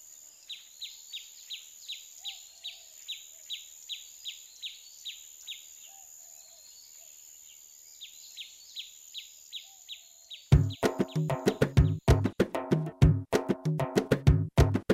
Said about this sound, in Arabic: العصفور، العصفور الصغير أصبح يعرف الحكاية فيصيح معترضا، ولكن هل يسمع الإنسان صرخة عصفور؟